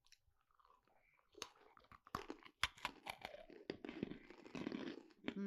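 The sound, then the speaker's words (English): Crunching and chewing of two hard mint chocolate candies, with sharp irregular bites and crackles growing denser and louder over several seconds, no talking. “It's like a mint chocolate chip ice cream, and I'm going to take 2.”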